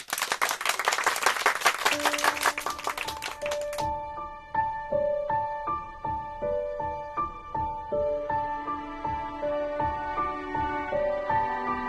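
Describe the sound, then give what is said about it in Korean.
A group bursts into dense, lively applause for about four seconds, congratulating a student elected by show of hands as the semester's top student, then it cuts off and a light, plucky musical tune with steady percussive beats takes over. “우리 모두 축하의 박수를 보냅시다.”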